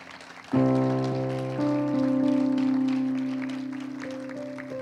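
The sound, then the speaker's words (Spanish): A crowd claps steadily as a dense, rain-like patter, applauding the ushers and teachers who served, starting abruptly and holding loud under sustained keyboard chords, then slowly thinning toward the end. “Vamos a darle un aplauso también a nuestros hermanos que nos sirvieron.”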